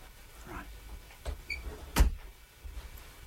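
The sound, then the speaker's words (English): A door thuds shut with a single solid knock, preceded by a lighter click and a brief squeak of the handle or hinge, against quiet. “Shut the door.”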